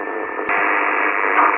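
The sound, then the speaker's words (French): A loud, steady hiss of radio static fills the whole moment, a dense band-limited rushing noise with a slight shift partway through and no clear voice coming through. “Pour un dossier des reports de réception, c'est très difficile parce que j'ai un bruit formidable ici.”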